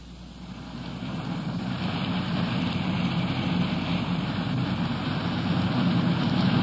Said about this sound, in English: Just kind of glancing out the window, a strong wind is whipping the trees along the street. It could be we're in for some rain before long.